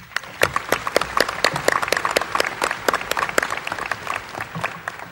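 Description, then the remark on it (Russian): Sustained applause from an audience at a Soviet ceremonial evening marking the centenary of the All-Russian Theatre Society and its award of the Order of the Red Banner of Labour, approving a greeting text; a dense stream of many hands clapping at once with sharp individual claps standing out, steady and fairly loud throughout without any talking. “Товарищи, разрешите ваши аплодисменты считать единодушным одобрением текста приветственного слова.”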